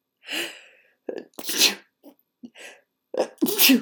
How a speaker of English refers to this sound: I have to sneeze. Maybe.